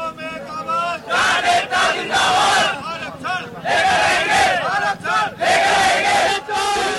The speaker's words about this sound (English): The sounds of protests outside Delhi have left 19 dead and affected the area's highway and water system to millions of people.